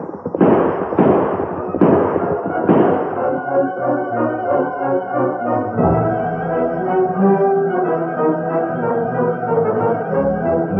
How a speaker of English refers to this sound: Gunfire.